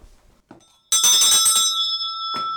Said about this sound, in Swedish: Katedern, den är från Tomteboda, och du ser ringklockan som står på katedern där också. Det var den man ringde i, det var rastklockan. Kan vi höra? Ja, den låter ju väldigt starkt.